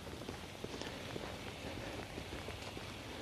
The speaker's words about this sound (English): It's raining enough that the water is dripping off the bill of my cap, which tells you something. So yeah, 8 o'clock, walking in the rain.